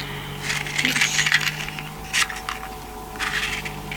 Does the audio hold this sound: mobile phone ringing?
no